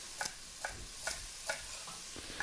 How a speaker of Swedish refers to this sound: Liksom, jag delar stjälkselerin på mitten. Ja. Och sen så skär jag tunna stänger. Mm. Bunta ihop stängerna, sellerstängerna, och hacka dem fint.